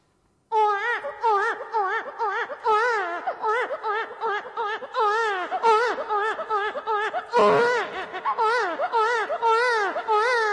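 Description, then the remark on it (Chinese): A voice imitates a little girl crying, with continuous high, wavering wails and sobbing catches for about ten seconds, loud and close, with a sharp breathy gasp midway. “那我再学个那个小女孩的哭声。”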